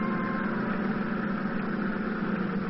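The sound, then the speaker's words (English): A motorboat engine drones steadily at a constant idle, a low rumbling hum with a rough, throbbing texture that holds evenly throughout, with no voices, as the boat starts toward a beach after dark with its running lights extinguished. “At last, darkness fell and we turned over our engines and started to the beach, our running lights extinguished.”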